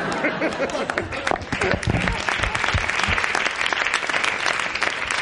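An audience claps loudly and steadily for about five seconds, a dense wash of many hands with faint voices mixed in at the start.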